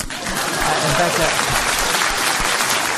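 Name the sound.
applause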